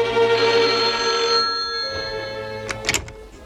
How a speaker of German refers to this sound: Zur selben Zeit, als der erste Detektiv den Laden von Lu Quan verließ, klingelte bei Inspektor Cotta das Telefon.